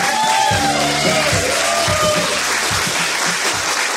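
An audience claps steadily in a dense, loud wash of applause, with scattered whoops and shouted cheers rising above it for about four seconds.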